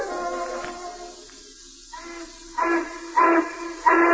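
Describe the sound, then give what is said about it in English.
A factory steam whistle blows to signal time for work, first a long breathy hissing tone that fades, then three louder, brassy blasts in quick succession at the end, with no one speaking. “The whistle blows, it's time for work.”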